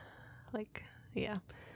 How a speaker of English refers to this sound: you can hear my breathing. It's slightly more labored, slightly deeper.